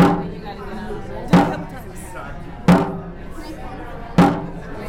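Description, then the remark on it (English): A dragon boat drum, used to set the rowing rhythm, is struck three times at a slow, steady pace in Madison, each loud hit ringing out briefly before fading, with a low murmur of voices underneath. “do you want to hit the drum?”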